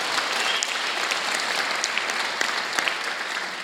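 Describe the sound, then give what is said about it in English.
A church audience claps steadily during a building dedication, a dense wash of many overlapping hand claps at a fairly even loudness, with a few sharper individual claps standing out throughout. “You got to put your hands and clap, because that's good stuff.”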